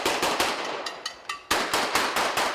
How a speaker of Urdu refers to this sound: قصبے سے کشیدگی کی اطلاعات مل رہی ہیں اور کرد مسلح افراد گلیوں میں فائرنگ کر رہے ہیں.